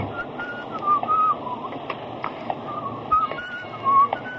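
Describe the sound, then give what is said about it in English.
A man whistles a few short, wavering notes of a tune at a steady mid-high pitch, broken by pauses, over a constant hissing background noise. “You're off key, buddy.”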